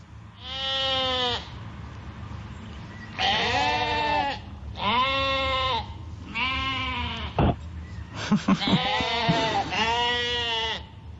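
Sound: goats bleating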